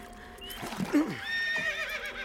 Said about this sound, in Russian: Ведомый под усы конь упирается.